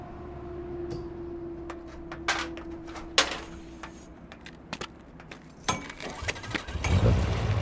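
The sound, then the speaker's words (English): A truck engine idles with a steady low rumble and a faint droning tone, while scattered metallic clicks and clanks cut through, building to a louder rumble near the end. “What are you doing with a truck?”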